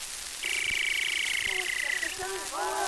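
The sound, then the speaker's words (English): A voice imitates a female wampus call: one long, steady, high warbling tone held for almost two seconds, then a few quick rising squeaky chirps. “Oh, a female wampus.”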